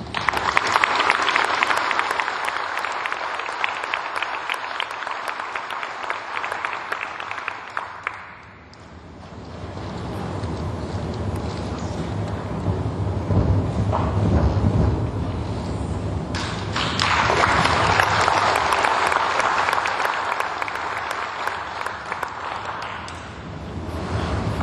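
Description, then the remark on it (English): Loud, sustained applause from a large crowd at a class of 2023 graduation ceremony, a dense crackle of many hands clapping that dips briefly partway through, then swells back up to full strength. No one speaks over it. “Thank you for that thunderous applause, both here from you and from above all night.”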